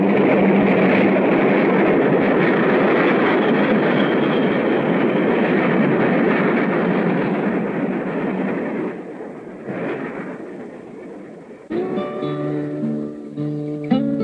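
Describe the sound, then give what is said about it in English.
A train hurtles past on the tracks about an arm's length away, a loud, dense rumble and rush of wheels on track that fades away, followed by a few sustained tonal notes. “Pete stands beside some train tracks as a train hurtles past an arm length away”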